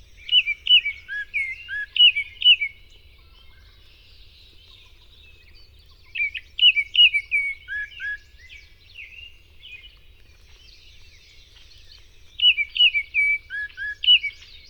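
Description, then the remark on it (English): An orange and black Baltimore Oriole sings its melodious whistled song in three short, clear phrases separated by pauses of a few seconds, over a faint low background rumble. “A much-loved neighborhood bird, the orange and black Baltimore Oriole has a melodious whistled song.”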